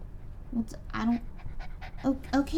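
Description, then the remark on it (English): A soft male puppy pants in quick, breathy bursts, with short soft vocal sounds from a person mixed in between the breaths. “This puppy is special?”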